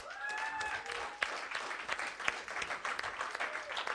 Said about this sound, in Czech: pojďte jí zatleskat.